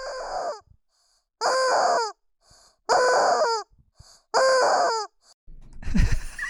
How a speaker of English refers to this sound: And I got a rubber chicken. So just kind of stand around the corner and just squeeze.